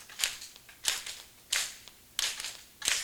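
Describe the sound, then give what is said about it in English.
Five soft, light claps of fingers against a palm, demonstrating a gentle way to teach children to clap, spaced at a slow, even pace with short bright slaps and quick decay, quiet overall with no talking. “So you move up on their finger, on your fingers like this, and you teach them how to clap like that.”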